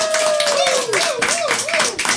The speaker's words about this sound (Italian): qui siamo su Zibaldone, Radio Contrabbanda 91.4 FM, sentite gli applausi di fondo.